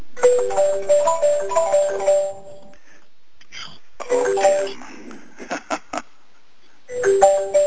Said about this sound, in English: Is that your phone